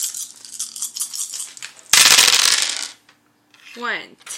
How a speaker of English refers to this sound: So you'll just roll 8 dice. That's how confident I am.